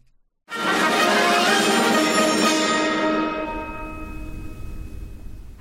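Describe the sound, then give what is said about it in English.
Orchestral music, the Viennese musical clock from the Herr Janosch Suite by Zoltán Kodály, played by the TSO led by Sir Andrew Davis, strikes up suddenly with a bright, bell-like chord that imitates a chiming clock. It rings and sustains loudly, then slowly thins out as the shimmering high tones fade. “On the new classical FM, the Viennese musical clock from the Herr Janosch Suite by Zoltán Kodály.”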